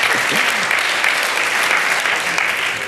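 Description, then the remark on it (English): A steady round of applause from a crowd, dense clapping filling the whole stretch at a constant loud level, with faint voices mixed in at the start. “A round of applause for Scruffy, everyone.”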